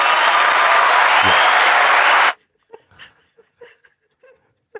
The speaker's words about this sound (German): Ich finde, das verdient schon mal Applaus.